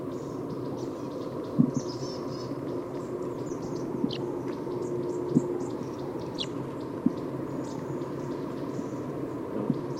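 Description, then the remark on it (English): Short, high chirping calls of crossbills from the top of a tree with a net set around it come in scattered bursts over a steady hiss, with a few sharp clicks mixed in. The calls are fairly faint, and no one is talking. “It's been about 10 minutes and I don't see those crossbills that were here, but I do hear some noises coming from the top of the tree.”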